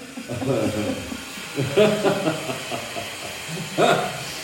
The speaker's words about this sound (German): So. Ihr seht, hier wird gearbeitet, es ist eine Baustelle und da darf die Geräuschkulisse nicht fehlen. Ne? Ihr müsst ja auch wirklich hören und sehen, dass ich hier war.